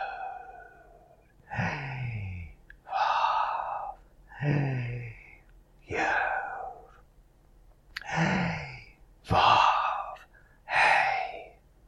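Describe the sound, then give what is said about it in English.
Slow, deep breaths drawn in and let out, about seven airy, breathy rushes paired in a steady rhythm with short pauses between. Clear, with no talking. “And breathe in and breathe out.”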